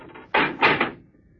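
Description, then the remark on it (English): A heavy door is dragged open with a short burst of scraping and creaking that swells twice before settling into quiet. “This thing gets heavier every week. Door's not that heavy”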